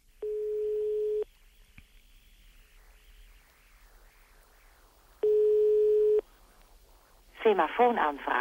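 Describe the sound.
A telephone call to a special number that pages a personal bleeper on the Benelux paging system: two steady, buzzy one-second ringing tones about four seconds apart over faint line hiss, then a voice begins talking near the end.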